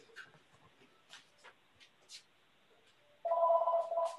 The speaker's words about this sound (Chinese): 不好意思，这有一个什么什么电话